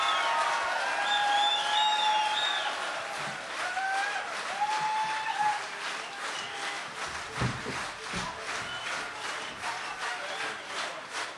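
A large crowd at a stage show claps steadily and densely for a performing act from America, with shrill whistles and cheers rising above the applause early on, then fading into sustained clapping that stays loud throughout.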